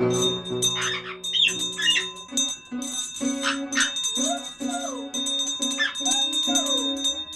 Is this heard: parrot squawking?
yes